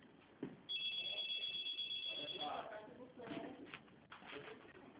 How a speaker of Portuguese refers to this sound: Eu só consigo ouvir o telefone tocando no fundo.